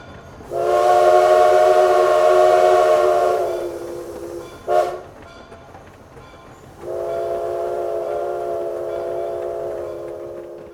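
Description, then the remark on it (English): A train coming out of a tunnel into a station sounds its horn in loud blasts: a long sustained tone, a brief short toot, then another long blast, with a faint rumble underneath and no one speaking. “Suddenly, there's a loud noise, and a train comes out of a tunnel into the station.”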